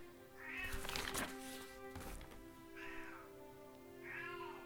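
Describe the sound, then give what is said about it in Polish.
A pet cat meows several times in a row, the repeated cries rising and falling with short gaps between them. A brief scuffling noise comes early on, and no one speaks. “O, mój kot. Chyba już ma dosyć mojego nagrywania na dzisiaj.”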